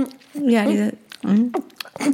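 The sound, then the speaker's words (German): A voice imitates a nursing baby's smacking and swallowing with a few short, wet, voiced gulping sounds in an uneven rhythm, fairly loud. “Dieses Schlucken, und das finde ich so süß, diese Schmatzgeräusche.”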